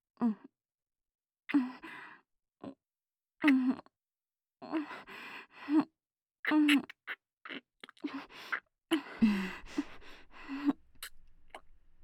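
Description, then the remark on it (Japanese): Intimate breathing during a deep kiss: a series of soft sighs and short voiced gasps in irregular bursts, with brief silences between and a faint low rustle near the end. No words are spoken. “この辺のあの息遣いとか結構こだわったなと思います。”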